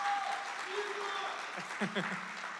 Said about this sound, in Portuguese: Vamos aplaudir todo mundo hoje.